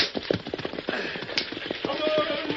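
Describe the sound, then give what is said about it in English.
Rapid, steady hoofbeats of whipped horses galloping in the wilderness, pulling a stagecoach, drumming without a break, with a faint rumble and rattle of the coach and a brief tonal sound partway through. “I'll get some speed out of these cayuses if it kills them.”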